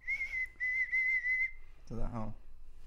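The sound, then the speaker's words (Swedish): A person whistles a special call: one steady, sustained high note with a brief break, held for about a second and a half. A short spoken phrase follows. “Han brukade vissla på honom.”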